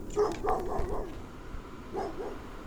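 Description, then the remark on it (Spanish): A dog barks toward the only inhabited house of a village in a quick burst of several yapping barks, pauses, then gives a couple more, against a faint background with no one talking. “Mientras el hombre hablaba, el perro seguía ladrando en dirección a la única casa habitada del pueblo.”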